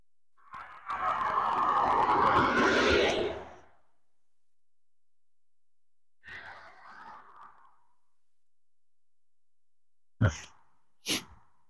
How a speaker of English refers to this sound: The difference in car noise between the car that's in the nearest lane as opposed to the far lane shows up in the waveform. Here comes a car in the other lane. Barely here, barely showed up. On the other hand, I'm spiking the meter here.